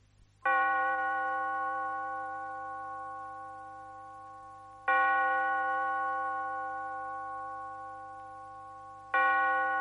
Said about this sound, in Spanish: Una, dos, tres campanadas.